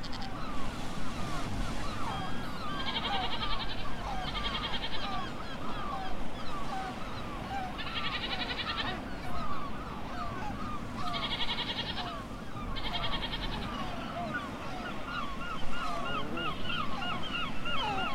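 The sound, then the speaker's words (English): Irish goats on the clifftop of Capel Island bleat in a dense, overlapping chorus of wavering calls that carries on steadily throughout, with short bursts of high, raspy buzzing recurring every few seconds. No one speaks. “The Irish goat is a tame but hardy species, and these Capel Islanders provided a frolicsome attraction for us as we watched them pop up behind the walls and scooting across the clifftop.”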